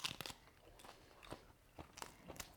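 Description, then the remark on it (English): Crisp, crunchy bites into fresh homegrown romaine lettuce, several sharp crackling chews spaced irregularly over a couple of seconds, fairly quiet with no talking. “This is my favorite lettuce to eat.”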